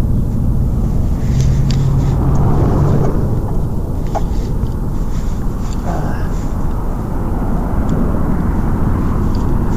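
A truck rumbles past, its loud, deep engine roar filling the whole stretch with a steady low drone that barely changes.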